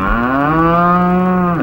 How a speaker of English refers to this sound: Well, there goes a B-flat cow now.